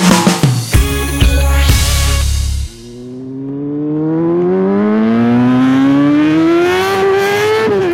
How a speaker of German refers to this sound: Dieses Geräusch, das hört man jetzt immer öfters. Beim schönen Wetter ist Motorradfahren wieder angesagt und das hat leider auch seine Schattenseiten.